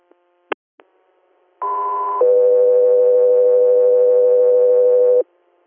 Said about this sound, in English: Country Air, standby for tones.